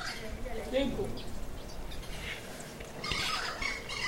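A Cuban crow gives a few odd, squeaky, gurgling calls in short bursts over a steady hiss of outdoor background noise.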